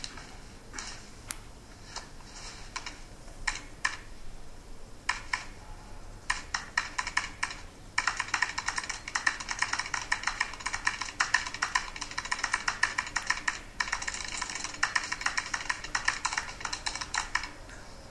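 Rapid typing on a computer keyboard, starting with scattered keystrokes and then building into a fast, continuous clatter of keys, clear with no voices.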